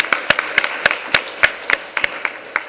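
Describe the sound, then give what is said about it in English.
Applause for the presenters at the end of a presentation, made of steady, sharp hand claps, about ten of them in an even rhythm roughly three or four per second, crisp and fairly loud with no voices. “Well, thank you, and let's give a round of applause to our presenters today.”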